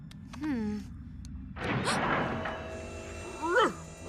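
dog

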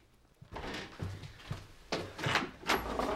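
front door being opened

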